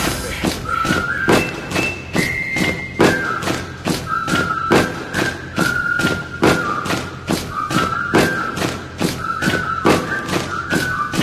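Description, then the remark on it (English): Heavy feet stomp in a steady, driving rhythm, about two thuds per second throughout, while a thin whistling tone wavers above the beat. “I said stomp with me.”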